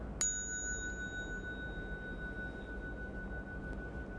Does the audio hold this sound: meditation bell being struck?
yes